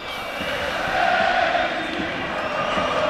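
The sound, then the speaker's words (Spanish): A large stadium crowd of Athletic fans chants "Guasen Athletic" in unison, a loud, steady roar of many voices with a sustained sung pitch that swells slightly midway and holds for the whole few seconds. “Guasen Athletic, que es lo que está gritando el público.”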